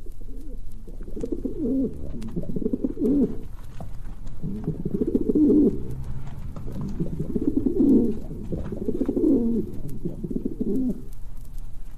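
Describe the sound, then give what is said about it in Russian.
A rock pigeon at St Isaac's Cathedral in Leningrad coos repeatedly, a series of low, throaty rolling phrases about a second or two each, separated by short pauses, with no talking. “В Ленинграде у Исаакиевского собора живет другой наш хороший знакомый – сизый голубь.”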